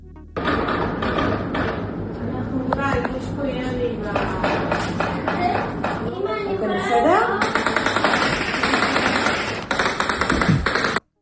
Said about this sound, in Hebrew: קראתי לזה ואני אסביר תכף, אבל תקשיב כי צריך להתאמץ לשמוע, לחימה עצימה בניר צבי.